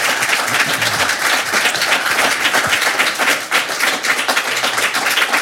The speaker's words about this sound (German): Also nochmal einen unfassbaren Applaus.